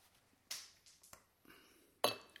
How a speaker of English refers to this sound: So we need to apply ice to the glass. Right. Certain amount of ice in that one.